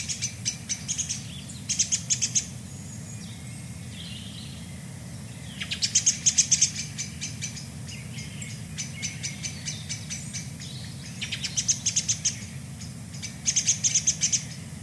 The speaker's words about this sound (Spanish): Atardecer en el bosque.